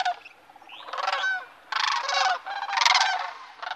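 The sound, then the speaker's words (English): Several loud, harsh trumpeting crane calls ring out in overlapping bursts, bugling and rattling with a rough, resonant tone, with no voices present. “Early in the morning, you will hear this haunting primeval call.”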